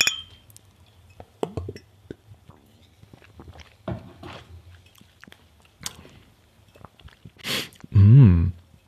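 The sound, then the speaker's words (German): Small glasses clink together a few times in a toast while drinking shots, amid scattered light clicks and handling noises, followed by a short hiss and a louder muffled thump near the end; no one speaks. “Prost.”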